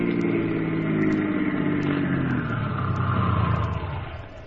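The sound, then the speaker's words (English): A car engine hums steadily, its low drone gradually dropping in pitch as the car, having taken a side road off the highway, slows and rolls to a stop at a warehouse, with a faint clicking ticking along above it. “All right, leave the car”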